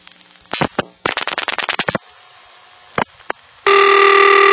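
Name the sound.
old telephone ringing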